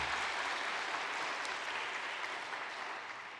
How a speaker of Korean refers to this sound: 여러분 누군지 알고 박수 치시는 거예요? 네, 고 꼬마가 저예요. 여기서 박수.